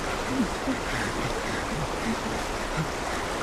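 A small stream flows steadily, with a continuous rushing, babbling hiss at an even level throughout and no voices.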